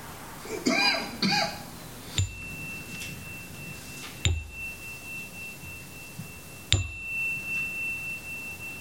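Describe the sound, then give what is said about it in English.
A bell is struck three times at unhurried, slightly uneven intervals during a guided exercise in which listeners focus on the sound until they can no longer hear it. Each sharp strike leaves a thin, high ringing tone that slowly fades. A brief murmur of voices comes just before the first strike. “I will then ring the bell 3 times, and again, I invite you to focus on the sound until you can no longer hear it.”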